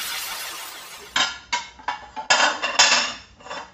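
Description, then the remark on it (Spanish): Dishes clatter and clink in a sink as they are washed, a string of sharp, bright knocks at an uneven pace after a brief stretch of running water, moderately loud, with no voices. “Papá, pero yo sí puedo lavar los platos.”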